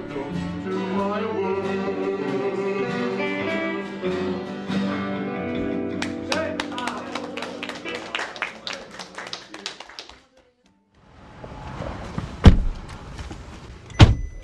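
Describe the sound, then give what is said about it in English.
Music plays, then gives way to scattered clicks and knocks as a car is loaded, a brief silence, and rumbling vehicle noise punctuated by two loud car-door slams as the drive back to Seattle begins. “I load up the car and start the drive back to Seattle.”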